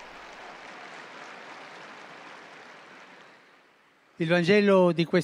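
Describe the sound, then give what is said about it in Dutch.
An audience at a Sunday church service applauds the fire brigade steadily for about four seconds, a dense, even wash of clapping that slowly fades out, before a man's voice begins speaking. “Ik vraag u een applaus voor de brandweer.”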